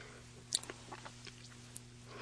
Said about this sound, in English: let me just grab a sip of water here. Yeah, that's one thing I always tell guests is as soon as you start talking, that's when you're going to need your water.